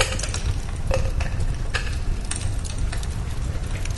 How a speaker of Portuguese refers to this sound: E aí, numa coqueteleira, nós colocamos mais a mesma porção de gelo.